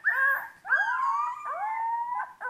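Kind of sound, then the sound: animal, puppies howling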